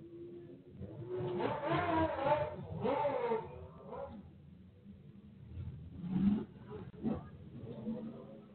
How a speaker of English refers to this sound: Funny how they allow motorcycles to sound like that, but a car don't supposed to sound like that. A car sound like that, they want to find you, and they want special emissions. But then a motorcycle sound any kind of way and scare everybody.